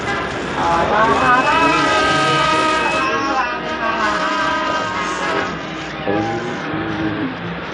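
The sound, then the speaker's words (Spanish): Busy street ambience as people leave a hospital and step out onto the street, with a steady wash of traffic and indistinct crowd voices, fairly loud and continuous throughout, with cars seeming to pass. “Calimán y Solín abandonan el hospital y salen a la calle.”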